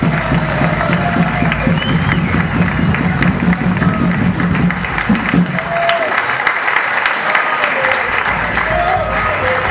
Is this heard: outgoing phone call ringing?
no